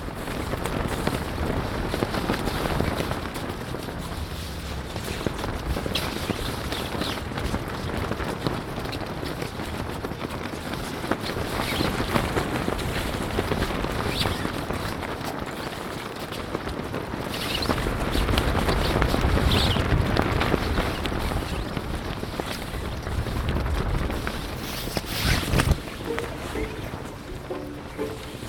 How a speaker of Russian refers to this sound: И вот за несколько часов до основных праздничных шествий и событий в этой тишине слышно, как на ветру развиваются флаги.